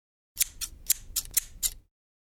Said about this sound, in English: Leonardo da Vinci invented the scissors.